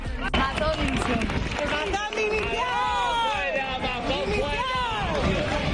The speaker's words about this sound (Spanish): Y han sido recibidos en la plaza del Ayuntamiento por toda la corporación municipal, entre aplausos, gritos de apoyo a los reyes. ¡Viva! ¡Viva! ¡Viva!